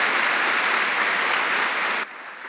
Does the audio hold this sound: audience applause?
yes